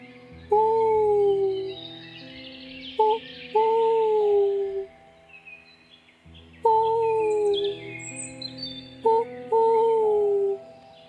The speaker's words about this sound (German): Die Nachteule flog dreimal um sie herum und schrie.